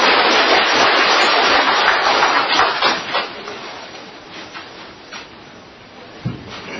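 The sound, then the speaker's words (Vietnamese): An audience breaks into loud, dense applause to welcome Venerable Thích Nguyên Tạng, vice abbot of Quảng Đức Monastery in Australia; a steady roar of many hands clapping that gradually thins and softens, ending with a few scattered claps. “Chúng tôi xin quý vị một tràng vỗ tay xin đón thầy Thích Nguyên Tạng.”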